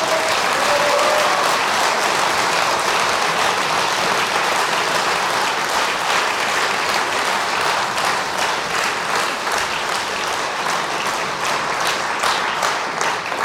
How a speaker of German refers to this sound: Das ist witzig, die da draußen, die klatschen vorher. Irgendwie, das kommt da schneller an als hier. Und sehen Sie, da klatschen die auch. Einen schönen Gruß nach draußen.